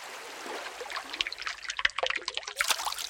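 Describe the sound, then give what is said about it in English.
Water trickles and gurgles steadily through the narrow stone channel of an Incan aqueduct, about half a millennium old and still working, with bright splashing and dribbling sounds rising and falling in an irregular patter. “Look at this, an aqueduct. An Incan aqueduct.”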